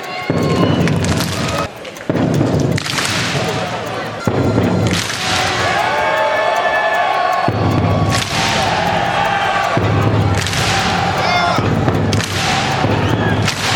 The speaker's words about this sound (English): All right, so it's essentially a Skull Vikings chant, but Wemby just hits the drum twice at midcourt and they clap.